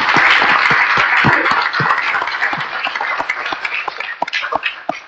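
An audience at a commission meeting applauds the staff steadily for about five seconds, many hands clapping in a dense, bright patter that thins slightly toward the end, with scattered louder individual claps standing out.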